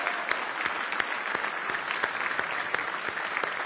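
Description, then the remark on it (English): An audience claps their hands as praise to the Lord in sustained, dense applause, many overlapping claps forming a steady crackling wash with a few sharper accents. No one speaks over it. “Give Him another big hand clap of praise if you love Him today.”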